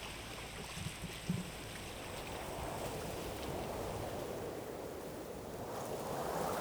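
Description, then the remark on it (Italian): A steady sirocco wind blows along the seashore on a nature trail linking two bays of an island, a continuous, fairly loud rushing hiss mixed with the wash of surf, with a couple of brief low buffets near the start and no voices. “Mi faccio accarezzare dal vento di scirocco.”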